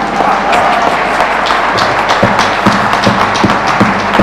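audience applauding

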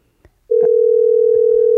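telephone dial tone

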